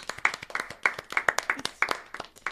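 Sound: people clapping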